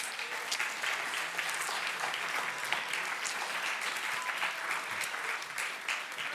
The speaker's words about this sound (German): Euch spontanen Schauspielern, ihr habt es sehr gut gemeistert. Danke auch euch kleinen Schauspielern. Einmal nochmal einen Applaus für euch, bitte.